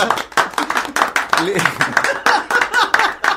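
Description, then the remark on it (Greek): A small group claps in a brisk, uneven rhythm of sharp hand claps lasting a few seconds, with voices talking over the clapping, welcoming a guest on the Pame Web Radio show. “Να χαιροκροτήσουμε.”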